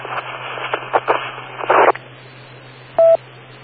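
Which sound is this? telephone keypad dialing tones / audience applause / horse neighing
telephone keypad dialing tones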